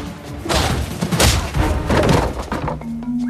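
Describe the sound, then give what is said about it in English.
A rapid series of heavy thuds as Big Mama disarms a man and repeatedly punches him in the face, several blows in quick succession, followed by a dull impact as he is knocked to the floor, then a faint low hum. “Big Mama appears from round the corner, disarms him and repeatedly punches him in the face, knocking him to the floor.”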